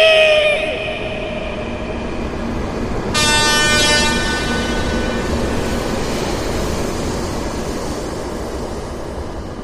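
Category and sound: vehicle, train running on rails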